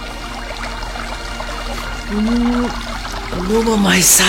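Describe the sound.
Water of a clear stream trickles and pours steadily throughout, while a voice hums or murmurs over it in the second half, with a brief splashy burst near the end.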